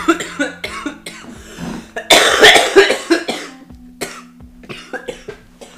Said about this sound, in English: And that's when you know it's good. He just coughs.